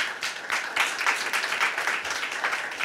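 A crowd applauds steadily, many hands clapping in a dense, even wash of bright, crackling noise that holds at a fairly constant level throughout, with no voices standing out.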